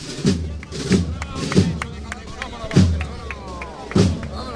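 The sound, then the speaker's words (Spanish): A knocker hammer strikes a paso de palio procession float about five times in sharp, resonant knocks at uneven intervals as the float enters the Plaza de las Acacias, heard over a steady murmur of crowd noise. “Suena el martillo.”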